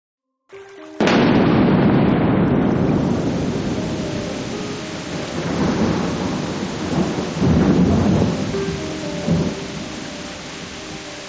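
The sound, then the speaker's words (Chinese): A summer thunderstorm opens with a sharp crack of thunder, then heavy rain pours steadily while low rumbles swell and fade several times. No voices are heard. “在夏天的一场大雨之后， 听说附近的小河里面的小生物都被暴涨的河水冲走了”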